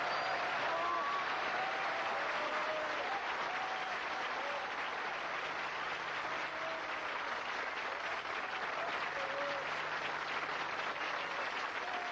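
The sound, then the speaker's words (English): Sustained audience applause for Alan Jones on the Jack Jones Show, Music of the Stars, with Jack Jones in the audience: a dense steady wash of clapping lasting the whole stretch at an even loudness, with faint whoops and voices mixed into the crowd. “And Jack's in the audience. What a crowd.”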